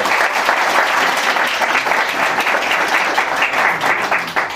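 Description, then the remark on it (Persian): A crowd applauds eight speakers who have just spoken, steady dense overlapping clapping that stays loud and even throughout, with no voices standing out. “خب خواهش می‌کنم این هشت بزرگواری که اومدن صحبت کردن جانانه تشویقشون بکنید.”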